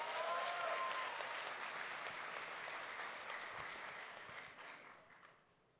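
A crowd applauds the city councillors present, on the eve of a holiday, with dense, steady clapping that starts loud and gradually thins out and fades over several seconds, with faint whoops and voices mixed in early on.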